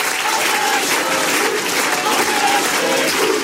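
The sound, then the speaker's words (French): A large crowd shouting together in a loud, sustained roar, chanting the slogan "On est chez nous", voices blending into a dense wall of cheering and clapping-like noise that holds steady throughout. “Ce que vous distinguez là dans la foule, c'est le cri « On est chez nous », un cri qu'on entend d'habitude du côté du RN, voire même du Front National d'avant.”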